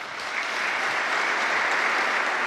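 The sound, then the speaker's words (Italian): Sustained applause from the Juventus and Lazio footballers meeting Pope Francis in the Sala Clementina of the Apostolic Palace on the eve of the Coppa Italia final, a dense wash of steady clapping that swells in over the first half second and then holds at an even, loud level with no voices standing out. “Questo l'applauso dei calciatori di Juventus e Lazio che questa mattina intorno alle 11 in sala Clementina del Palazzo Apostolico hanno incontrato Papa Francesco alla vigilia della finale di Coppa Italia”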